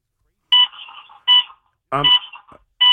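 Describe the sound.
A phone belonging to one of the speakers rings with a loud electronic ringtone, bright tonal bursts repeating roughly every three-quarters of a second, with a brief voice cutting in partway through.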